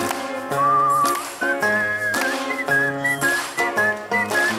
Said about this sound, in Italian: Sentite dalla destra una musichetta e c'è qualcuno che fischietta con questa musichetta. Sentite qualcuno che fa.